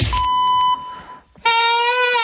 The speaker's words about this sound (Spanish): Nos ha quedado hoy, a ver... Nos ha quedado hoy la chifla un poco afónica.